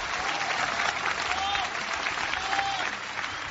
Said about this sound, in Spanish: En este día en el que se celebra Nuestra Señora de Luján, celestial patrona de Argentina, un aplauso a la Virgen de Luján. Más fuerte, no siento, más fuerte.